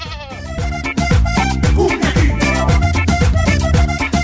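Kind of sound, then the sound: animal, sheep bleating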